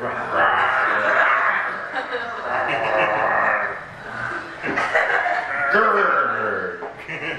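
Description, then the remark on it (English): An audience imitates grizzly bear and black bear growls, many voices overlapping in a loud, continuous rumble of mock growling with bits of chuckling mixed in, rising and falling over several seconds. “But we need lots of grizzly bear noises and black bear noises for this page. So can we hear some growls from the audience, please?”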